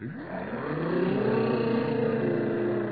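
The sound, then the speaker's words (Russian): A group of voices hums and drones together in imitation of jet engines, a steady buzzing hum that swells in pitch and loudness, then holds for a few seconds. “А гудеть вы умеете, как реактивные самолеты?”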